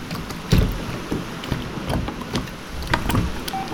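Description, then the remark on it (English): Oars dip and splash in a loose, repeating rhythm as a small boat is rowed, with several strokes over a steady wash of wind and water and no voices. “Why do I feel like I'm the only one rowing for the past hour?”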